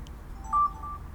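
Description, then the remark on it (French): A single short keypad tone from a talking phone for visually impaired people beeps clearly over a low background hum, a quick dialing press with no voices around it. “Alors, grâce à lui, enfin, j'avais entendu parler de ce fameux téléphone pour malvoyants.”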